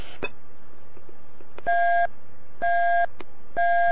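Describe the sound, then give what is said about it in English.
Three short, identical electronic beep tones, the A tone dialed to a radio repeater, repeat at a steady pace, each a clean steady pitch lasting about half a second, over a faint hiss of radio static. “Now here's the A tone.”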